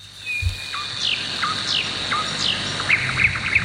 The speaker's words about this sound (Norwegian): Og da kanskje når man sitter i solveggen, ikke sant, med en kopp kaffe, og så hører man nattergalen da, som vi hører her.